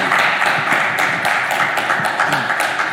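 Steady audience applause, a dense wash of many hands clapping at once, loud and sustained throughout with no voices standing out.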